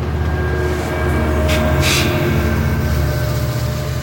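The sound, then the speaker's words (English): Steady, loud rumble of an Amtrak passenger train to New York in motion, heard from on board, with a low mechanical drone, faint whining tones and a couple of brief hissing bursts midway. “Josue takes me to Amtrak, and I take the first train by myself to New York.”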